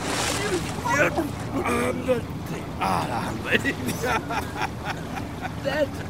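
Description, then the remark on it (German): Water splashes and sloshes heavily and continuously for several seconds as a person is grabbed by the collar and pulled out of a calm sea, fairly loud, with muffled voices and vocal sounds mixed into the turbulent churning. “Gerade als ich kurz vor dem Versinken mit letzter Kraft noch einmal um Hilfe schrie, packte mich etwas mit furchtbarer Kraft am Kragen und riss mich aus dem Wasser.”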